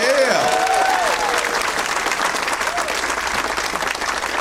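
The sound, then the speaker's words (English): A crowd at the Punchline claps steadily for the staff in a dense, continuous wash of applause, with a few whoops and cheers rising briefly at the start before the clapping carries on evenly. “Let's hear it for all the staff here at the Punchline.”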